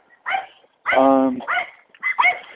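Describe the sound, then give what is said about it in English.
Dogs bark in the morning in a quick, irregular series of sharp yaps, with one longer, drawn-out whining bark in the middle. “Oh, we have dogs this morning.”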